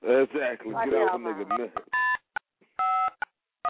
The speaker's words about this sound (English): Beep, we're not here right now. Please leave a message at the beep.